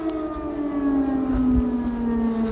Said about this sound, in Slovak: Dobrý večer z Dnipra. Hej, ako som prišiel, privítali nás ruské rakety a letecký poplach.